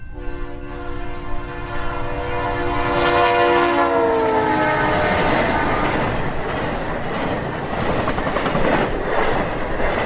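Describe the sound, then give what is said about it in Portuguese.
A diesel locomotive in the dock area sounds a long, steady multi-tone horn that slides slightly in pitch before fading into a loud, continuous rumble of the passing train. No one speaks. “Longe em longe, uma locomotiva óleo diesel apita, desanimada, e vem furando as luzes na zona do cais.”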